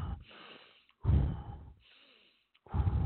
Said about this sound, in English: They say, yeah. And when they demonstrate it to me, they breathe in, out.